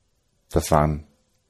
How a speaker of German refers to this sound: Da kommt unser nächstes Kind, Ja. unsere Katze.